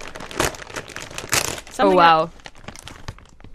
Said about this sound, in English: But you know what I really don't like about Kettle Brand chips? Let this be known. How you open these bags. Yeah, I know. They're quite irritating to open.